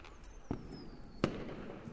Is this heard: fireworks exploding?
yes